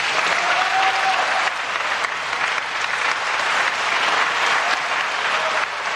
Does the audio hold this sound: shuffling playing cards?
no